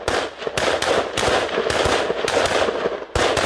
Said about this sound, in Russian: Бойцы стреляют из автоматов, потом перебежка, снова открывают огонь и занимают позиции. Это тренировка штурмовых действий.